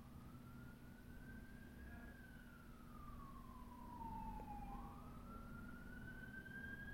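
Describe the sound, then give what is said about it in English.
An ambulance siren wails steadily, its tone sliding slowly up and down and dipping lower midway as it goes by, over a constant low rumble of traffic with no one talking. “Oh no, that's an ambulance.”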